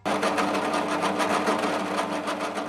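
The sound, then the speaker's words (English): A power drill runs continuously in a guitar maker's workshop, a loud, steady mechanical whir with a fast rhythmic chatter pulsing through it and no voices. “Davis drills in his workshop.”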